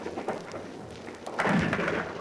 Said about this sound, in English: He's going up and he knocked the 3 down and 1 swung round and knocked the other 2 down. Return him a total of 7. You can no doubt hear the balls rolling down and as they hit at the bottom. They're very, very heavy.